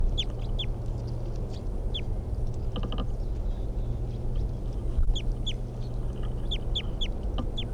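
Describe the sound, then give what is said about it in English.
A wild bird in a tree calls repeatedly in short, high, sweeping notes, spaced irregularly throughout, set against a steady low rumble of outdoor background noise. No one speaks. “Stop. wild bird.”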